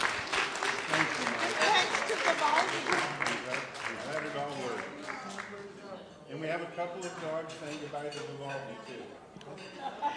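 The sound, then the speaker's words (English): An audience breaks into loud, dense applause for a presentation for about four seconds, then the clapping thins out and fades as a person begins talking over it. “And we applaud you for your travels and for your presentation.”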